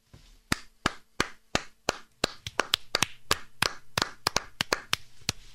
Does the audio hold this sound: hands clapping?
yes